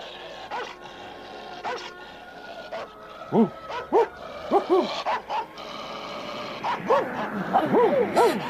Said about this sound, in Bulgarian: Аз имам право да играя с големите кучета пазачи, но само на портата.